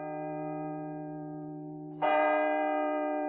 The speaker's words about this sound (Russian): Часы эти были старинные, немецкие, привезенные в свое время из Веймара в счет репараций. Они размеренно отработали свое «хрбам» 8 раз подряд, вздохнули напоследок и стихли.